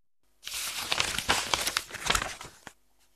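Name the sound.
book pages being turned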